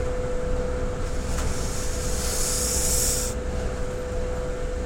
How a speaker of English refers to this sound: That whining noise, and I'm not talking about me, that's a whinge, FYI. That whining noise all the time you're on the bus. I'm sure it's been used as, you know, torture by certain regimes in the past.